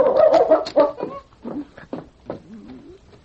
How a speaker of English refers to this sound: Find him, King. The intelligent dog sniffed a moment, and then going to the back door, he barked.